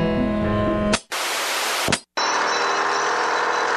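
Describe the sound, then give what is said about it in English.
Loud roar of heavy machinery in Kewaunee as the world's largest grandfather clock is moved to make room for a new bridge: a low droning rumble that cuts into harsh, hissing noise, stops abruptly twice, then returns as a steady grinding din, with no one talking. “Chimes were not heard in Kewaunee today, just the roar of heavy machinery.”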